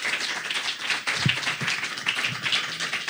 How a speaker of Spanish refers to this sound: Un aplauso para Bernardo.